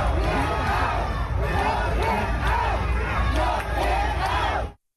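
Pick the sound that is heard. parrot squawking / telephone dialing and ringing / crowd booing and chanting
crowd booing and chanting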